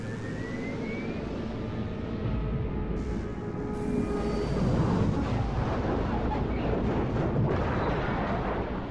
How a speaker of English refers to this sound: Biff does not see the hurtling, burning rocket ship. Like a fiery arrow, scorched across the sky, crash nearby.